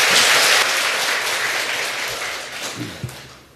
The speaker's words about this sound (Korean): 네, 손 내리시고 박수 한번 치세요.